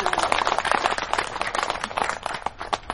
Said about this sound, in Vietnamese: Rồi cho một tràng pháo tay đi.